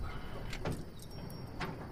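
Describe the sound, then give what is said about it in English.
A pickup truck rolls to a halt, its low engine rumble steady and fairly quiet, with a few short clicks and rattles over it. No one speaks. “Later, the truck comes to a stop.”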